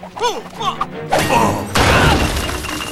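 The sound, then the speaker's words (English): A brick perimeter wall bursts apart with a loud crash as Gloria smashes through it, then a second heavier smash and a spill of tumbling rubble. A few short vocal cries come just before the impact. “Meanwhile, Alex dangles over the perimeter wall on Melman's neck, and Gloria smashes through the brick.”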